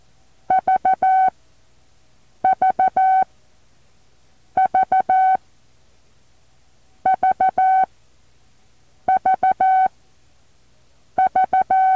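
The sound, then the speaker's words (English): A steady, mid-pitched Morse code tone sends the letter V six times at the start of a novice 5-word-per-minute sample examination: three quick dits and a longer dah in each group, with even pauses between groups and no voices. “Remember, all exams start with the letter V sent 6 times.”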